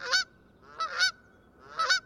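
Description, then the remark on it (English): A Canada goose honks three times at a steady pace, each call a loud, nasal two-part honk rising in pitch, with no talking. “Or this familiar cry of the Canada goose.”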